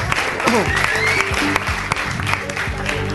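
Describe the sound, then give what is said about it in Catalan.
An audience applauds the sweet sushi winning the originality prize, a dense, steady wash of clapping that holds at an even loudness throughout, with a voice briefly audible underneath the noise. “Podeu, ja, bueno, aplaudiu.”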